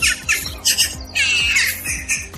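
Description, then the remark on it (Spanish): Jackdaws, black birds, caw in a rapid, overlapping chorus, several harsh squawking calls repeating close together with no pauses, loud, with no one talking. “Son las grajillas, un ave de color negro que hace un ruido un poco desagradable.”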